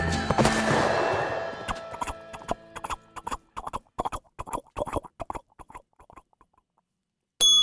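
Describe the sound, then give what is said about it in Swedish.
A voice imitates a horse in the dusk as a cowboy sound. A loud, rough whinny-like burst opens, then comes a run of sharp tongue-click hoofbeats in an uneven galloping rhythm that slows and fades, ending with a short loud snort. “Och det vi hörde var ju alltså en häst i skymningen.”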